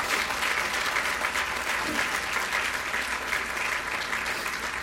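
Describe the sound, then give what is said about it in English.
An audience applauds the city council, who stand up, steadily, a dense wash of many hands clapping at even loudness for about five seconds, with a faint murmur of voices underneath. “I want to ask the city council to stand up so that you can applaud them.”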